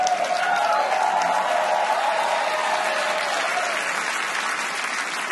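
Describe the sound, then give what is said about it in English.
A crowd applauds a joke about the wage gap and a woman on the $20 bill, with dense, continuous clapping that holds loud and even for several seconds before easing slightly at the end. “applauding the wage gap.”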